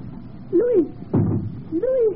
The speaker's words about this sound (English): There is no answer, madame. He must be there. Open the door.